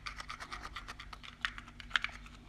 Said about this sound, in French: Alors, j'ai mis les petits papiers dans la boîte. Je secoue la boîte.